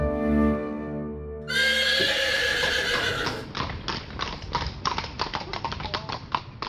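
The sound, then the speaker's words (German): A horse whinnies with a long, bright neigh, then its hooves clip-clop in a steady rhythm of sharp knocks. Music plays underneath throughout. “Auf dem Pferd.”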